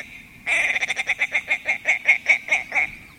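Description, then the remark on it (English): A white-winged, rusty-bodied male tundra bird gives a loud chuckling call as he flies in a long arc over the tundra across the tops of the willows: a rapid run of about a dozen harsh, clucking notes that start quickly and then slow and spread out toward the end. “Picture those white wings propelling that chunky, rusty body in a long arc over the tundra as he chuckles his way across the tops of the willows.”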